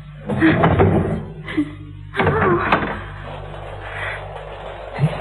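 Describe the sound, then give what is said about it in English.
A locked door is unlocked and pulled open: a cluster of metallic clicks and rattles, a pause, then another scraping, knocking burst as it swings, over a low steady hum. “The door's locked. So it is. Well, I'll have to unlock it, won't I?”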